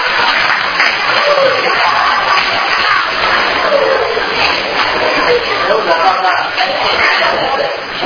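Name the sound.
audience clapping hands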